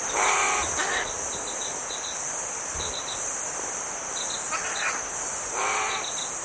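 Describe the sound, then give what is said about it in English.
New Caledonian crow calls from New Caledonia in the Southwest Pacific, a few short hoarse caws in separate bursts over a constant shrill buzz of crickets and insects in the background. “And the crow there, one of the smartest birds in the world. Here's a little sound of it.”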